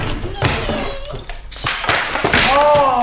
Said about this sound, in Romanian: A căzut lampa. Ce porcărie!